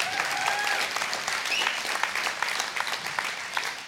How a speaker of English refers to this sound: You can clap for the worship. That was good, huh?